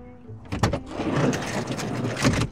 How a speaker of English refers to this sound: Okay, you go around to the side of the vehicle and you've got a sliding door like a big boy van. The access to the second and third rows is so easy.